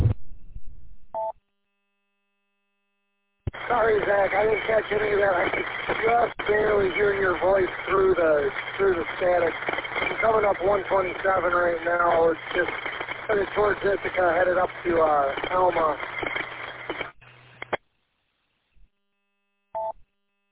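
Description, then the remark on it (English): A band-limited amateur radio transmission over EchoLink from a driver headed to Alma, with a steady rumble of road and engine noise running underneath a talking voice, cutting in abruptly after a silent gap and dropping out again near the end. “I mean, you got some road noise on you, but you're coming in decent.”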